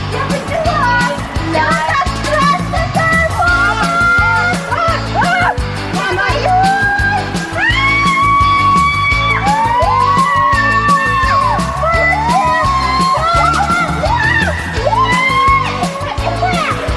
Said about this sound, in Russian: Вот визжат, а? Не, ну горки-то тут, конечно, классные.